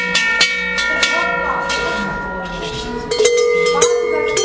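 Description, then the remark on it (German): Several cowbells clang in an irregular rhythm, each metallic strike leaving a ringing tone that overlaps the next, with a louder cluster of clanks toward the end. “Und wir klingen nicht Handys, sondern Kuhglocken.”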